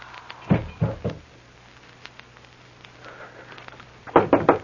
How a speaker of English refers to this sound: There's a door. Someone there.